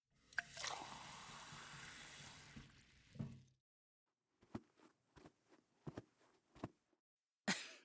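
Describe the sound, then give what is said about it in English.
Water is poured into a glass in a steady stream for about three seconds, followed by a series of soft clinks and knocks of the glass being handled. “Let me get that glass of water for you.”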